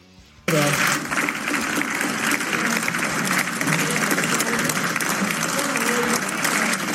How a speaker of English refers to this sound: Order, senators. All right, applause, applause, applause. We agree with what you said. It's still going.